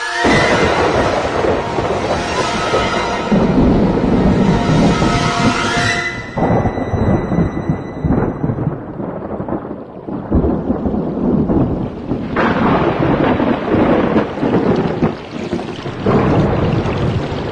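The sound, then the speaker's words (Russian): A heavy downpour hisses steadily while deep thunder rumbles and rolls through, loud, with the storm's roar continuing unbroken for the whole stretch and no voices present. “Однажды в середине лета ливень вымыл его из норы, в которой он жил со своими отцом и матерью, и унес барахтающегося и цокающего зверька в придорожную канаву.”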